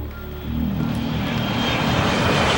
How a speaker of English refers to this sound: As Gordo's plane lands at the airport, Butan waits in the terminal while the two cops are in their sedan.